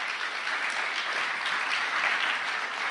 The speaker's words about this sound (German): Komm doch bitte mal nach vorne. Ein Applaus für einen guten Freund.